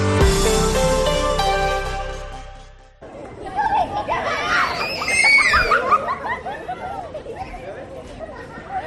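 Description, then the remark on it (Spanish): A short musical jingle fades out, then a loud crowd of children shouts, shrieks and chatters all at once as they come out of school in the village of Argelita, a lively din that keeps up to the end. “Gritos, juegos, carreras. ¿Es la salida de un colegio cualquiera?”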